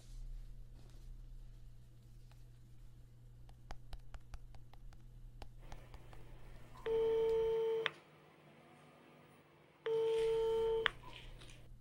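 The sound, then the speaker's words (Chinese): A few faint taps and clicks, then a mobile phone ringback tone while calling a neighbour to invite her to play mahjong: two steady electronic beeps, each about a second long, separated by a pause of a couple of seconds. No one speaks. “刚才我听到隔壁喊你打麻将呢，你等一下，手机给我。”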